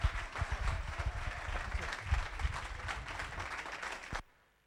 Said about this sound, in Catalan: Ah, doncs llavors l'aplaudiment és en el lloc que toca. No, és que anava a dir que si vostè continuava que ens esperéssim aplaudir al final.